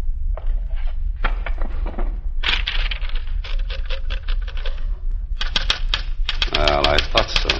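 Rapid, uneven clacking of the keys of a portable typewriter on a desk in quick bursts, with a sharper metallic strike and a brief ringing clatter near the end, over a low steady hum.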